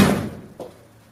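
A door shuts with a solid, close-by thud, followed about half a second later by a softer latch-like knock, then quiet.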